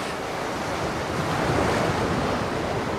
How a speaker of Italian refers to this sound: La sabbia calda, l'acqua che mi scorre sui piedi.